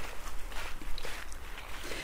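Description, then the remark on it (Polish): Footsteps of people walking a few paces further outdoors in Zamość, toward a grave, a steady, regular crunching rhythm over a low background hum, moderately loud, with no one speaking. “Chodźmy parę kroków dalej.”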